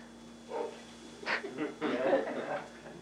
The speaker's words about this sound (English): My dog downstairs, they're part of the Bible study. He barked right at the right point. That dog is spiritual.